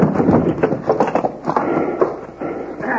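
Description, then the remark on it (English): Horses stamp and strain, hooves clattering in a busy, uneven rush over a rough scraping and grinding noise as the team hauls iron bars out of a wall. “Get up there. Lean into those collars. Haul away.”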